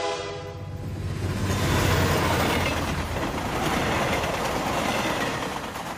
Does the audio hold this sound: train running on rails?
yes